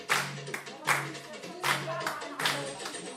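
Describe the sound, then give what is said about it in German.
A group of women clap in a steady rhythm, loud, with overlapping hand claps roughly every beat and some voices murmuring underneath, cheering on one woman who dances alone inside their circle. “Darin tanzt eine der Frauen, allein. Die anderen klatschen, feuern sie an.”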